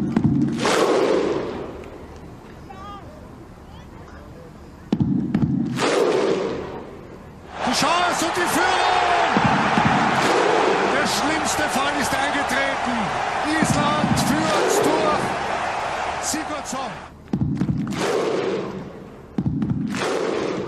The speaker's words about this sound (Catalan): El crit viking, que uneix la selecció islandesa i la seva afició, es converteix en un dels sons del campionat.